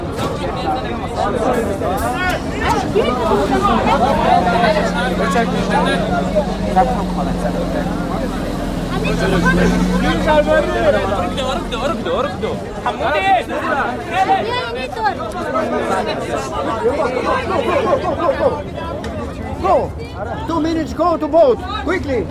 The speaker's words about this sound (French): Et le bateau part dans 10 minutes. Donc il y a une foule qui se presse contre le guichet pour essayer d'acheter son billet pour monter à bord du bateau.